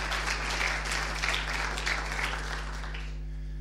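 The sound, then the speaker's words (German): An audience applauds to welcome two first-time attendees, with dense, steady clapping for about three seconds that then fades out, with a low electrical hum running underneath. “Das gibt einen Applaus.”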